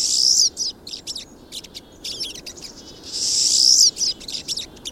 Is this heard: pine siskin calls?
yes